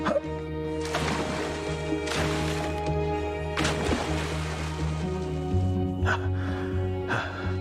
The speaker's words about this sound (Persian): چند بار دیگه باید بپرم تو آب؟ تا وقتی که ارباب راضی بشه.